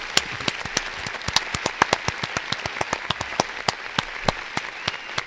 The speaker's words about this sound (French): ça mérite des applaudissements. Ah ouais.